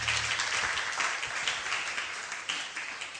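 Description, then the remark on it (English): An audience applauds the worship team together, a dense, steady wash of many hands clapping at once that fills the room for a few seconds without letting up. “Give the worship team a big hand clap again.”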